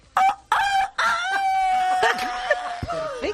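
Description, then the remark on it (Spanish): A woman imitates a rooster's crow, a loud vocal cock-a-doodle-doo with a few short sharp bursts leading into a long wavering call lasting a few seconds. “El gallo te lo hago ahora mismo.”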